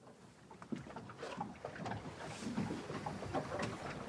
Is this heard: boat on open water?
yes